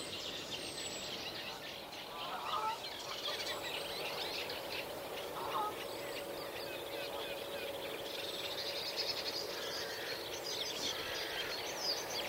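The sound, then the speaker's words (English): A chiffchaff sings faintly at a reed bed in Wales, its simple repeated notes mixed into a busy chorus of other birds, including chuntering reed warblers, over a steady outdoor hiss. “So I can just hear Chiff Chaff singing there.”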